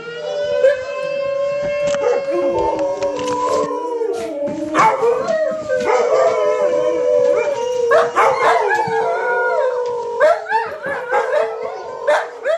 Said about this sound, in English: If you're going to call Sue, don't call her at noon Alaska time, because in Nome, at noon, the fire station sounds its alarm and Sue's dogs go crazy. It takes them quite a while to simmer down. Take a listen. This is Zach, Zoe, Zevon, and Zelda.